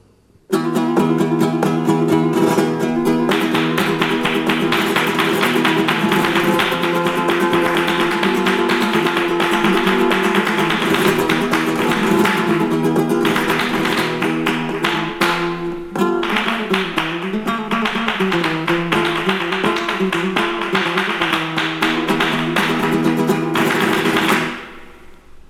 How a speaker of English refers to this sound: Palmas is a sound produced by clapping firmly one hand against the other. It is a rather complicated rhythm for the accompaniment of the Andalusian songs and dances. This is the hand clapping in the bulerías.